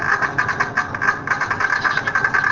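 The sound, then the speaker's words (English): A single neuron in a bird, recorded with a single-unit electrode, heard as a loud, continuous crackling buzz that pulses in rapid bursts of spikes, with no talking over it. “Now what you hear in the background is a single neuron, single unit recording, and you hear that before the bird sings, it's a very regular firing, and then when he begins to sing,”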